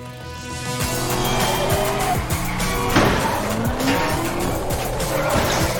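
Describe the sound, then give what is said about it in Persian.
A car engine revs hard while its tires squeal and skid continuously, loud, with sweeping pitch changes as the vehicle accelerates and turns. “حق با تو بود، این ماشین عالیه.”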